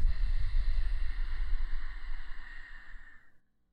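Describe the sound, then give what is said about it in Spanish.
A long, slow breath exhaled during a guided breathing exercise, a soft rushing whoosh that imitates the sound of ocean waves, holding steady for about three seconds before trailing off into silence. “Mira cómo vienen y van las olas. Y con tu respiración, intenta imitar el sonido.”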